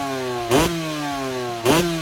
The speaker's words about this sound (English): Revving it up there.